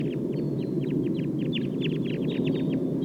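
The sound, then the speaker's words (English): A wild flock of about 11 birds, said to sound like call type 2, calling in rapid, overlapping bursts of short, high chirps, repeating steadily over a constant low rumbling background hum. “So recording the wild flock now.”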